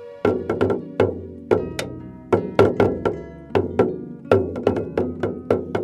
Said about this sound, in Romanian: Bum, bum, bum, bum, tamburul lui răsună la fel de tare ca și inima mea. La fiecare lovitură, eu mă afundam tot mai mult în scaunul meu.